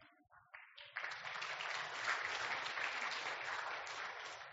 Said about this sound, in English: We'll see if you're still clapping by the time I'm done.